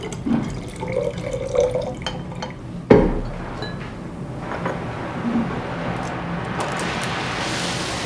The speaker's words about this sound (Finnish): Laboratoriossa vesi lorisee ja koneet käyvät